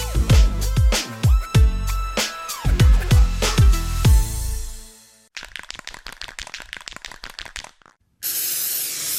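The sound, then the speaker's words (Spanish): Deodorant aerosol spray: a steady hiss lasting about a second, following a stretch of rapid rattling clicks. Earlier, descending musical tones play, with no one talking. “No sé lo que tiene este desodorante, pero me da un placer.”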